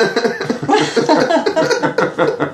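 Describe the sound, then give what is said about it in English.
A loud smoker's cough: rough, hacking bursts repeated in quick succession for a couple of seconds, with no talking. “Oh, mate, have a little cough.”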